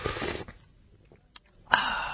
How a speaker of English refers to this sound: What's your favorite sound, man? You got a favorite sound at the moment? You like a sound that like you know what a sound I like is like a sipping sound.